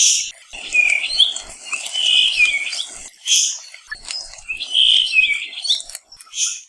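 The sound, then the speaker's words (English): A puaiohi (Kauai thrush) on the island of Kauai delivers high, sweet warbling phrases in several bursts, clear, with brief pauses between, over a faint background of other chirps and insect-like hiss. “Like other rare and cryptic birds, the best way to find one is not by sight, but by sound.”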